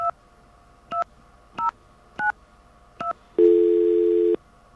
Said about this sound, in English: Oh, did you hear that? The dial tone. I got a dial tone. I wonder what happened. I stopped dialing as soon as I heard that. All right, let me start again. I'll dial slower this time, and I'll see what that dial tone means.